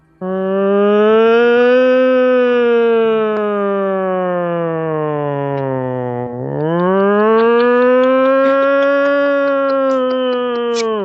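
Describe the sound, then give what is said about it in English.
A loud ambulance siren wails on its own, its tone sliding slowly downward for several seconds, then jumping back up and holding a high, steady pitch. “You know an ambulance doesn't stop for a red light.”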